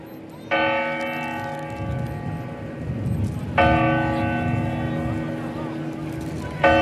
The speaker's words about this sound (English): I could hear some, you know, I could hear some striking clock chimes in there. And then what on earth else was that?